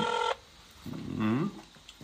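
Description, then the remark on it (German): A steady electronic Spanish telephone ringing tone, as used in Spain, sounds loudly for a brief moment before cutting off abruptly, followed by a short low vocal sound and quiet background. “Das ist bei dir in Spanien ist ein bisschen anderer Klingelton.”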